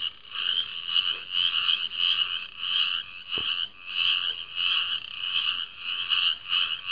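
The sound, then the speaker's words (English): A dense chorus of frogs croaking at night, a steady pulsing trill that swells and dips in regular waves, with one brief low thump partway through and no voices. “Those are our frogs down here.”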